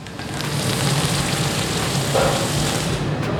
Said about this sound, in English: So if you hear a sizzle on the metal, then you know that area is hot. But after I cool it down, I can hold it here, and that allows me to control the glass.